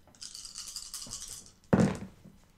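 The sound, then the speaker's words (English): A handful of eight dice rattles briskly as it is shaken for over a second, rolled for an investigation and wits check, then lands with a sudden loud clatter that tumbles and fades quickly. No one speaks. “Okay, so that's one success, and let me roll here.”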